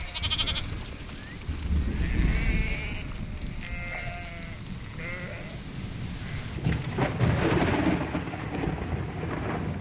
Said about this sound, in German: Als ein Unwetter naht, ist Eile geboten.